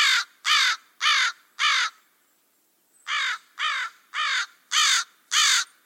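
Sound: crow cawing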